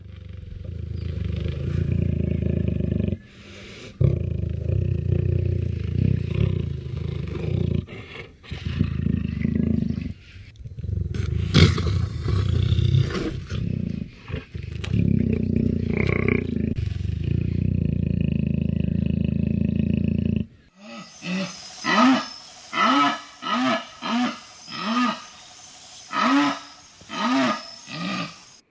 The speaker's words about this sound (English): we're going to begin right now by listening to the sound of a jaguar in the wild